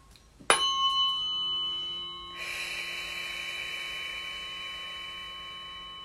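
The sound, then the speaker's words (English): A tuning fork is struck once and rings with a bright, steady chord of pure tones that slowly fades, while a soft hiss rises underneath partway through. No one speaks. “Any inflammation in the gut right now, see it dripping away and neutralizing, absorbing the sounds of this fork.”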